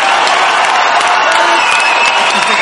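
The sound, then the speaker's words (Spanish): Loud, dense applause with cheering from a crowd during a talk about SEO, a continuous wash of clapping and scattered whoops that holds steady for a few seconds, sounding full. “Aplausos, muy bien.”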